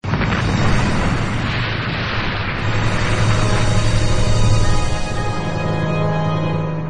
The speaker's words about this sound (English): Just then, lightning strikes the mad doctor and his monster, igniting a huge atomic explosion that everyone watches while standing 20 feet away.